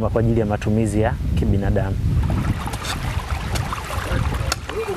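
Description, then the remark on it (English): Water gushes steadily from the outlet of a windmill-driven pump that uses wind power to pump water from a borehole to households, a loud continuous rush and splash, with voices talking briefly at the start before the flowing water takes over. “This is a windmill-driven water pump project. The system uses wind power to pump water from the source, be it a river, a lake, or a borehole.”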